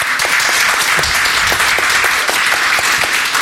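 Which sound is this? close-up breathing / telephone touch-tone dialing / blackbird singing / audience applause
audience applause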